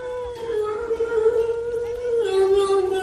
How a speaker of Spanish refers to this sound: ¿Eso es un maullido? Sí. Esto que escuchas es un gato que maulla a su aire, sí.